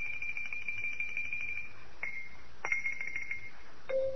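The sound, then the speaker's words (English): High, ringing xylophone notes from next door, a few sharp strikes that hang on as sustained tones, fairly quiet over a low background hum, with no one talking. “But there's got to be some legal way to kill xylophone players.”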